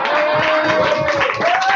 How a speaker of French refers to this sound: Et d'ailleurs, comme c'est ma toute première goguette chantée ici et que c'est une réchauffée, bah, je pense que vous pouvez m'applaudir 4 fois plus fort.